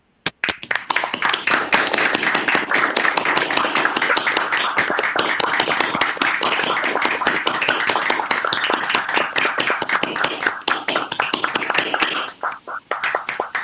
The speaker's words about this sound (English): I ask you to unmute your machine and give Daryl a round of applause